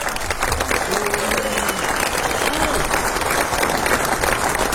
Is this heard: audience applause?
yes